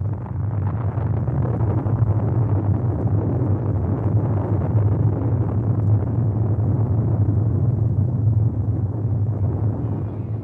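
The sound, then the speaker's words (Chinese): A strong earthquake erupting from beneath the ground, a deep, continuous rumble that roars steadily for the whole stretch, heavy in the low end with a rough, grinding texture and no voices. “从地底下爆发了一个强烈的地震”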